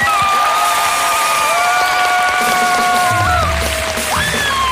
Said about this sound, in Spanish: Bueno, hermano, vamos con la votación del público luego de este nuevo enfrentamiento. Por aplausos, ¿ok? Para que no estar contando manos como cojugos. Aplausos para Encima Me Masturbo. Aplausos para En Ceviche.